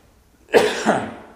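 cough

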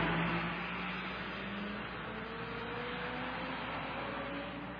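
truck driving past outside

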